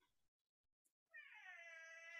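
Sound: cat meowing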